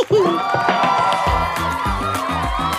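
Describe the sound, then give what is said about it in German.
A lively crowd cheers and whoops loudly for a few seconds, with applause blended into the noise and a steady rhythmic backing pulsing underneath, celebrating Flipsi for answering all the questions. “Flipsi findet's raus und am Ende gibt's Applaus.”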